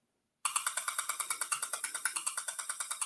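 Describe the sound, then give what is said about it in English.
Wi-Fi signal picked up by an RF meter: after a brief silence, a steady train of harsh, hissy clicking pulses starts, about eight per second, buzzing like a ratchet with no speech. “And this is Wi-Fi.”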